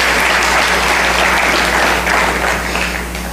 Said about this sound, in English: Let's welcome her again with a beautiful hand clap.